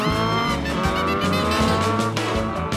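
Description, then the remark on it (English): Loud, continuous roar of racing motorbike engines, revving and shifting pitch, with tires squealing over the top. No voices, just a dense wall of engine noise. “They dressed in denim jackets and raced around on motorbikes”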